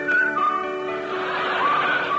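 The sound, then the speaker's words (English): Wind whistles through ship's rigging, thin high tones gliding up and down over a steady rushing hiss. The whistling is moderately loud, continuous and unbroken, with no voices. “But on the fourth day, they heard the wind whistling in the rigging.”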